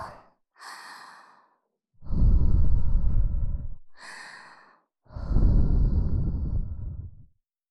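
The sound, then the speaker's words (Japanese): Close, intimate breath sounds: two soft inhales followed by two long, airy blows of warm breath into the ear after an ear cleaning, each lasting about two seconds, gentle and breathy as if exhaled right beside the ear. “それじゃあ、最後に、ふぅしましょうね。熱い吐息を。”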